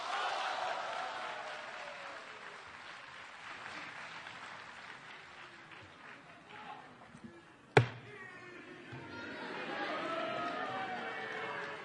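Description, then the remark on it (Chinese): A crowd at a xiangsheng (crosstalk) show claps for performer Guo Degang in a dense, continuous wash of applause, broken by one sharp loud knock near the end before the clapping swells again. “我知道啊， 哎， 这个掌声是给您的。”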